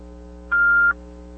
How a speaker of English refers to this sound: What's that beeping sound?